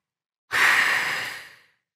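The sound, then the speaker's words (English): One long, steady whoosh of breath pushed out through the mouth to show how to breathe out, starting strong and slowly tapering off over about a second. The airy hiss stands alone with no talking. “In through the nose, out the mouth. Make a whoosh sound, like this.”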